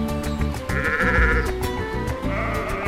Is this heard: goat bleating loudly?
yes